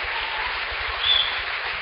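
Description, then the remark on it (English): Steady applause from a crowd welcoming a speaker who brings the word of the Lord fills the whole stretch, a dense, even wash of many hands clapping at moderate volume, swelling slightly near the middle with no voices on top. “Give him another warm welcome, would you?”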